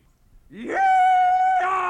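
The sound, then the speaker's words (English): A single loud rebel yell kicking off the Stan Freberg show: one voice swoops sharply upward in pitch, then holds a piercing, sustained high whoop for over a second, with a slight break near the end. “I'm just doing a rebel yell here to kind of kick the Stan Freberg show off.”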